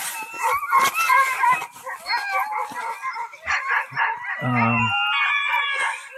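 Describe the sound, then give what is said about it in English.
A pack of sled dogs in a team barks, yelps and howls together in a continuous, excited chorus, loud, with overlapping voices and a deeper bark breaking through near the end. “These dogs is nice, you know. They want to grow well.”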